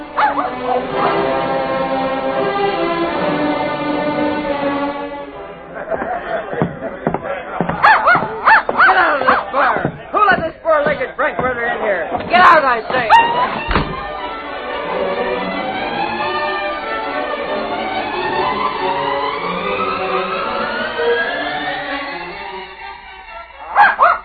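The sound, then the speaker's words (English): A small hound whines in high, wavering tones, then breaks into a flurry of sharp yips and barks before settling back into long, pleading whimpers, fairly loud. “Hey, get away from me, you silly-looking hound. Go home. Quit following me.”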